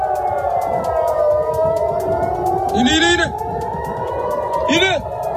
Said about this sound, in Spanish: Siguen sonando las alarmas antiaéreas en ciudades como Tel Aviv.